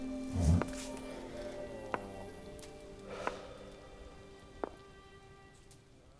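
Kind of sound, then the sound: nature, rain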